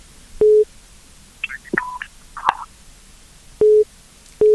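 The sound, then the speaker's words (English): A steady electronic phone tone beeps in short repeated bursts, like a disconnected-line signal, with a few faint clicks and rustles between the beeps and no talking, after a caller's phone credit runs out during a radio call-in program. “Your credit is gone. I don't know what happened or network.”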